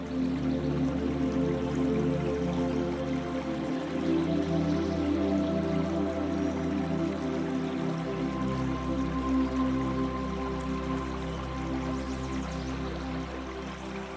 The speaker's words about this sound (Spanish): Cubre poco. Apenas el agua te llega por las rodillas. Y sientes cómo la suave corriente de agua fresca masajea tus piernas.